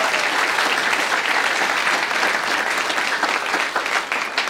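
Sustained applause from a sizable audience at a ticketed event in Wisconsin, a dense steady wash of many hands clapping at once, fairly loud and continuous for several seconds with no one speaking.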